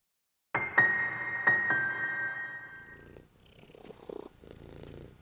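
A cat purrs loudly, starting abruptly and rumbling steadily for a few seconds before fading into softer, rougher purring with some faint rustling. No one speaks.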